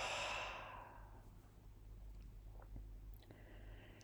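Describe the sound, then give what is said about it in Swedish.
A soft, breathy open-mouth exhale in a guided breathing exercise, after an inhale through the nose and a brief hold: a broad airy rush that is strongest at the start and fades over about a second, followed by quiet low hum and a few faint clicks. “Öppna munnen och andas ut.”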